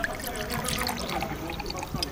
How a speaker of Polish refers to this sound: Dolej mi proszę herbaty. Proszę.